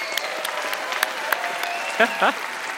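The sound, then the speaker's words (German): A live audience claps steadily throughout, a dense crackle of many hands at moderate loudness, with a couple of brief voiced whoops rising over it near the end. “Einen großen Applaus für Günther Kastenfrosch!”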